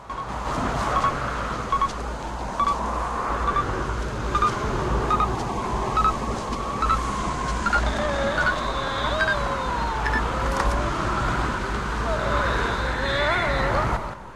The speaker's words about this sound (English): David and Savick struggle along through a dense blizzard, holding their hands up to shield their faces from the gusts of snow.